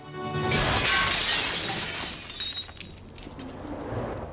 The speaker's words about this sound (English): Desmond watches as Philby stands in front of one of the large shop windows, looks up and down the street, then swings the bat and smashes the window.